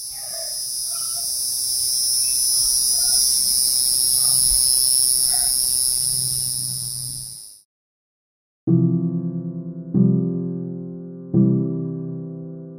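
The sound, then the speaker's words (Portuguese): A cicada's loud, continuous high-pitched buzzing drone fills about seven seconds, cutting off abruptly, followed by silence and then three bright, ringing musical notes struck one after another. “A cigarra, só zizizinha, com sua cantoria, enche o jardim de alegria.”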